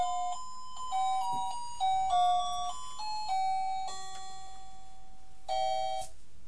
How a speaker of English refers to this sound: Well, not the Christmas tree lights, the lights around the window. Can you just make a noise while I turn them on because they're musical ones, but we'll turn that off in a second. Oh, it's jingle bells again, isn't it?